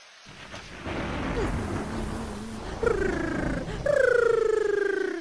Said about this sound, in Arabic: وحدث ما كان في الحسبان. اشتد صقيع الشتاء ونزل المطر